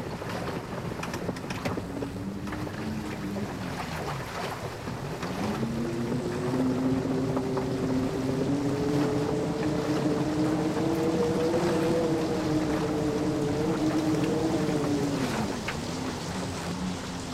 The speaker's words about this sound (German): Viele Tage und Monate segelte die Dicke Bertha, bis sie am Ende der Welt angelangte. Schon von Weitem hörte die Mannschaft den tosenden Sturm, der niemals enden wird.